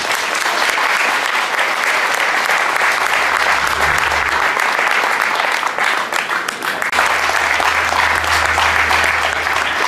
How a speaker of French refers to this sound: On va encore l'applaudir. Hein.